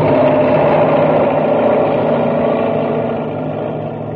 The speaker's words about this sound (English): And now, as Buzz tries to pull Happy free, the enormous driller roars down upon them. It's no use, sir. It's still right after us. It's going to crush us.